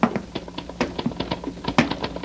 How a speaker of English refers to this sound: He really is working, isn't he? I mean, I hear him, his typewriter.